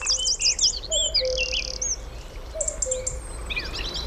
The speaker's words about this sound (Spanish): Y enseguida van a empezar a incorporarse uno a uno las aves del día. El cuco, un petirrojo. Es de noche, pero ya suena el día. Es casi invierno, pero ya suena la primavera.